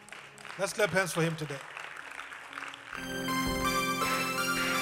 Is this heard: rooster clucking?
no